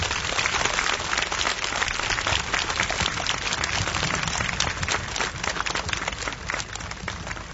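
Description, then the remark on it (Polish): Sustained applause from a large crowd thanking God for the fine sunny weather, a dense, steady patter of many hands clapping at once, holding evenly for several seconds with no voices over it. “Kochani przyjaciele, wczoraj jeszcze w Giżycku padał grad, padał deszcz, a dzisiaj od Pana Boga utrzymaliśmy radosny uśmiech słońca, dlatego oklaskami gorąco podziękujmy Panu Bogu za to, że dzisiaj przygotował nam tak wspaniałą pogodę.”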